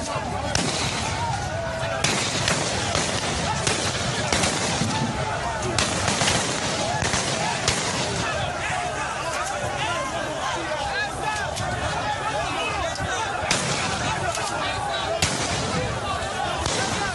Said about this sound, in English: Sounds of gunshots as the protesters came under fire last night. It was unclear who opened fire at the Lekki Lagos toll plaza.